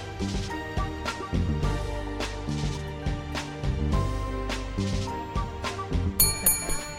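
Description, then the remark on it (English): A bright service bell on a bar counter in a Copenhagen bar dings near the end, rung by a customer to notify staff, a few quick metallic rings standing out over steady background music playing throughout. “Oh, somebody's ringing the bell.”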